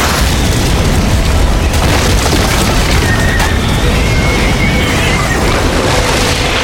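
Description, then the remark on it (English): A loud explosion as a burning missile smashes through the wooden stairs above a dock, splintering and cracking timber amid a dense, roaring rumble that holds steady for several seconds, with no voices. “And then it streaked over Kip's head and smashed the wood stairs above the dock.”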